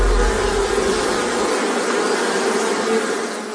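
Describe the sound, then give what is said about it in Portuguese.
A mosquito buzzes steadily and loudly for several seconds, a continuous high-pitched droning whine with no pauses and no voices, while a low rumble underneath fades out partway through. “Ele pode transmitir a dengue, zika, chikungunya.”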